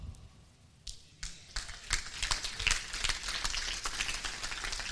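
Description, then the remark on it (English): A crowd breaks into applause, starting with a few scattered claps and swelling into steady, dense clapping that carries on to the end, with no voices over it. “And see, that wasn't to get an applause for what we did.”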